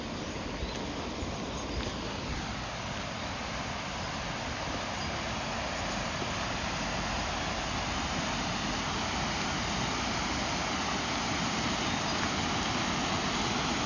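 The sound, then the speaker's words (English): Water of the Glashnabai River pours over a weir in a steady, unbroken rushing roar, broad and hissy, holding an even loudness for the whole stretch with no voices. “You hear the sound of water from the Glashnabai River going over a weir.”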